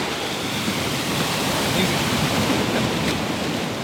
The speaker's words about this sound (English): It's such a nice quiet day today, isn't it? Not too many big waves.